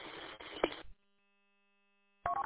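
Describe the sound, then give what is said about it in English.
A burst of hissy, band-limited amateur radio audio cuts off, and after a second of silence a short, loud sequence of electronic beep tones sounds: an amateur radio transmitter's roger beep. “can you turn your Roger beep off, please?”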